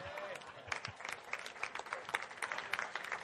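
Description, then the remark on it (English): An audience claps steadily for a few seconds, the sharp, irregular hand claps overlapping into a dense patter at moderate loudness, with faint crowd murmur in the background. “Give me a clap.”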